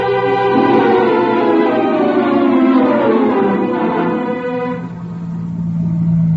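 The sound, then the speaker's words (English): A car engine drones loudly and steadily as the vehicle drives, its pitch climbing through the gears, then dipping briefly before picking up again. No one speaks. “I got a car downstairs.”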